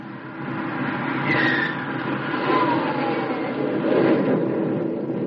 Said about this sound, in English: Then you release the brakes, and a sudden surge of unbridled power jerks you back in your seat. And now you're rolling, picking up speed as the jet engine builds power.